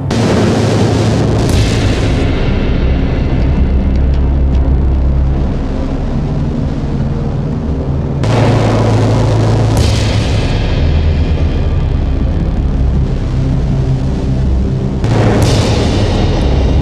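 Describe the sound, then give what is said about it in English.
Loud, dense video game audio of heavy booming drum-beat impacts, each marking the moment the player strikes and kills a cultist, broken by a few sudden crashing bursts of cars being hit and exploding at irregular moments. No one speaks. “So each of those drum beats that you are hearing is the moment when you strike a cultist and kill them.”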